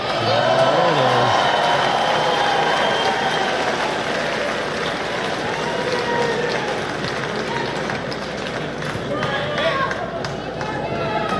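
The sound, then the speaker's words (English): A loud, steady crowd roar at a Ted Cruz appearance fills the whole stretch, with a raised male voice of a kid shouting over it near the start as he is dragged out, and other strained yells rising through the din later on. “I think they're dragging that kid out. You can hear him still yelling.”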